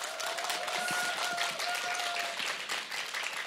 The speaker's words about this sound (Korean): 박수